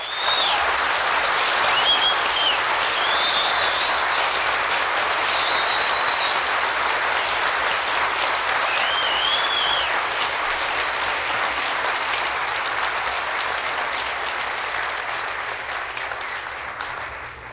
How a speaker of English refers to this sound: Please applaud all of these wonderful graduates in arts and sciences.